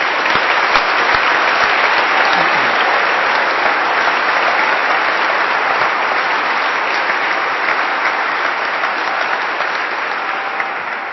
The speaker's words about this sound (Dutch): Zullen we ze een applaus geven?